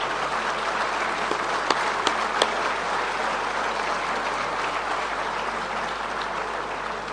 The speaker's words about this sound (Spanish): Pido un aplauso para los productores que la están pasando mal.